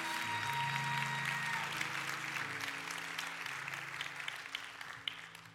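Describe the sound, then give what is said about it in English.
An audience applauds for visiting guests and for their pastor with dense, steady clapping that fills the whole stretch and eases off slightly toward the end, while low sustained musical tones hum underneath. “While we're in the midst of clapping, let's also clap for your tremendous pastor,”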